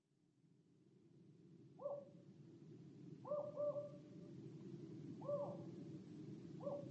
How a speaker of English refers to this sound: Outside, an owl shrieked.